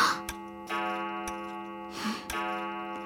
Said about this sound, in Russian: В самом начале моего жизнеописания я должен упомянуть, что родился я в пятницу, в полночь. Замечено было, что мой первый крик раздался, когда начали бить часы.